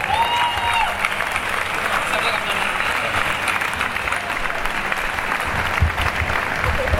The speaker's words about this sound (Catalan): Un fort aplaudiment per ella, sisplau.